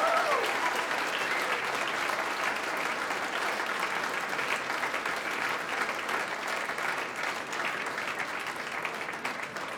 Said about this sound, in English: The …, ladies and gentlemen, please give your warmest round of applause.